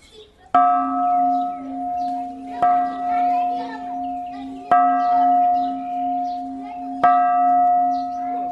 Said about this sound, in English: At the enormous Shwedagon Pagoda in Yangon, tourists ring the bells as a purification ritual.